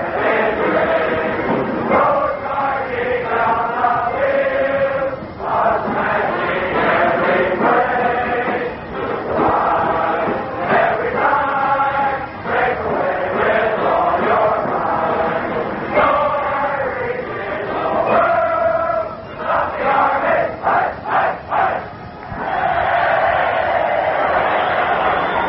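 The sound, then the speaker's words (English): A large chorus of Cadets sings loudly and steadily over a band at a football game in a New York City stadium packed with 75,000 spectators, during a time-out late in the first half, with a crowd-like roar underneath, on a muffled, narrow-sounding old recording. “The Cadets start to sing, the band starts to play, and we start to listen.”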